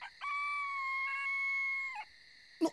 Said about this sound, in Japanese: なんや、このガラス引っかいたような悲鳴は。